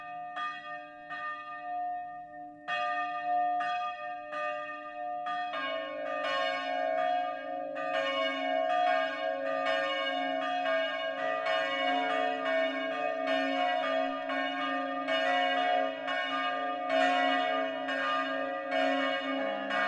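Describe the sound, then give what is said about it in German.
Four church bells ring the noon peal at 12 o'clock from the tower of the Protestant St. Georgskirche in Bertholdsdorf, a district of Winsbach in Middle Franconia, overlapping in steady strokes that build and sustain, loud and resonant with no voices. “Das Mittagsläuten kommt heute von der evangelischen St. Georgskirche in Bertholdsdorf, einem Ortsteil der mittelfränkischen Stadt Winsbach.”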